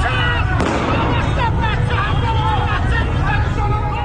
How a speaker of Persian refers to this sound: تصاویری که از خیابانهای ایران منتشر می شوند پر هستند از صدای گلوله و جراحت ساچمه هایی که در بدنها فرو رفتند.